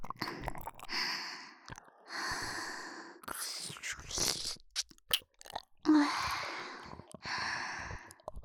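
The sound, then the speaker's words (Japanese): Breath blown softly into the ear, a series of about five or six airy, hissing exhalations in a slow, steady rhythm with brief pauses between them. “私の吐息、耳にかかるの気持ちいいんでしょ。”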